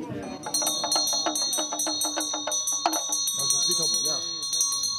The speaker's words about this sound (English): As if on cue, the monk's cell phone rings, a reminder that there's no turning back the clock to simpler times, even in a 13th century monastery above 3,000 meters.